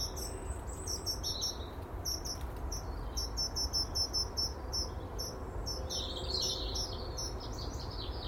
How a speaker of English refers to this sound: Birdsong. It's almost like a spring morning. Bird song wise, it is.